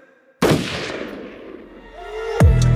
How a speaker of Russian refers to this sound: Ружье в моих руках, и оно выстрелит.